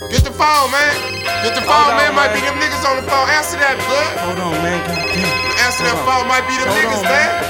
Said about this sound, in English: Get the phone, man. Might be them niggas on the phone. Answer that, bud.